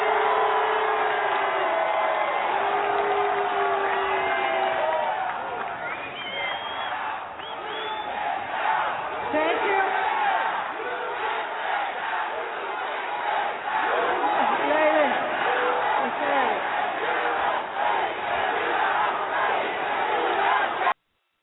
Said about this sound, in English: There's a short clip there of the nays that have pretty much been ignored. And then, of course, you know, they're yelling USA to try to drown the dissent out.